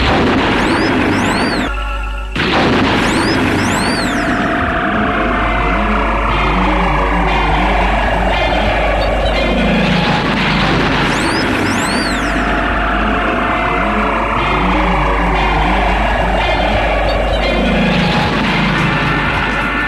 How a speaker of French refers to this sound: Tu viens nous chercher avec l'hélico, s'il te plaît.